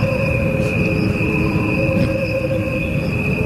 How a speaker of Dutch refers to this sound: Crickets have a faster lifespan than humans do. Their sounds are slowed down to the equivalent of a human lifespan. What you are hearing are the crickets only. No instruments or voices are added.